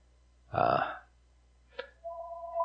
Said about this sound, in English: forgot the phone this morning, but here it is ringing already.